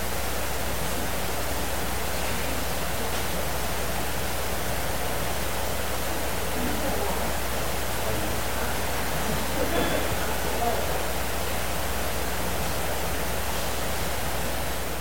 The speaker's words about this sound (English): Every time I come into the sanctuary and it's raining like this, I'm tempted just to start preaching on. I hear the sound of the abundance of rain.